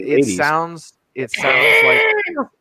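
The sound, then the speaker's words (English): A person imitates a fox's scream with two loud, strained cries: a short wavering wail, a brief pause, then a longer, shriller screech that fades out. “And I don't know if you guys have ever heard what sound a fox makes, but it's abjectly terrifying.”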